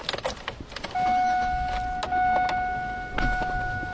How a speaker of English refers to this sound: We get in a car and drive up the hill to Mount Edgecombe's dormitories.